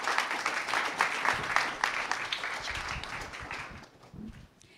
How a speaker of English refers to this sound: Yeah. I want to give a round of applause for Tactile, Team Tactile.